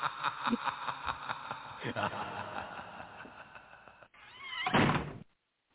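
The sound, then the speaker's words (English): A door slams shut with a loud, heavy thud near the end, following a stretch of busy background sound with what seem to be voices, then silence. “They all they missed was the slamming door.”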